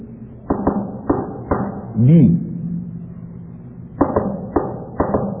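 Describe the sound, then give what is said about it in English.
Sharp knocking taps on a prison cell wall in Morse code, spaced in small groups, with a single spoken word in a pause between the sets of taps. “When we were everyone alone in a cell, we communicated with each other by Morse code, by tapping on the wall.”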